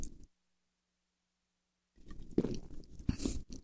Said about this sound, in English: I had to take a gulp of water. Didn't want you to hear that thing.